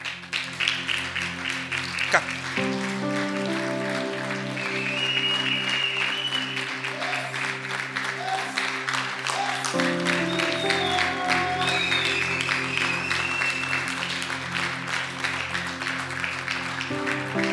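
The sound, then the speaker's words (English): A large audience claps steadily and continuously to encourage people coming forward for prayer, a dense, even patter of many hands over sustained keyboard chords, with faint voices mixed in. “Let's keep clapping our hands and encourage them.”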